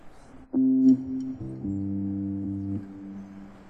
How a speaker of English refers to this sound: I'd like to just check this harmonica sound really quickly after that.